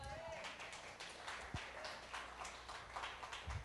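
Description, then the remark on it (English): An audience claps steadily for several seconds, a dense, continuous patter of many hands with no clear pauses, filling the room at a moderate, even volume. “You guys can keep clapping.”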